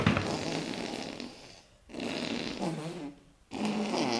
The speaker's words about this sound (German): Könnt ihr nicht draußen pupsen? Oh, wie peinlich.